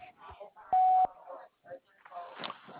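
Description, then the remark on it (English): A single loud, steady answering-machine beep lasting about a third of a second, with people talking before and after it over a telephone line. “Please leave a message after you hear the beep, and I will get back to you.”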